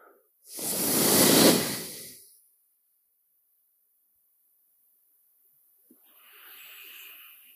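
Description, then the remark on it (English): A strong breath pushed out through the nose during a breathing exercise, with the right fist resting on the right knee, a rushing exhale of about two seconds, followed by a pause and a softer, quieter breath near the end. No one speaks. “You have your right hand sitting, you know, the fist on your right knee, and you breathe out.”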